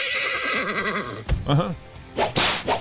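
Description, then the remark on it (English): A horse whinnies loudly with a wavering cry, then a few sharp whip cracks land in quick succession, each followed by pained, higher-pitched squeals from the animal. “We will beat the horse of respectable evangelical 21st century sins next on Wretched Radio.”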